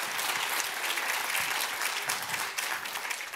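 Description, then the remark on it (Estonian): Steady, dense applause from an audience, many hands clapping at once in a continuous wash of sound that stays loud and even throughout without pause. “Olen siiralt, jah, paluks aplaus.”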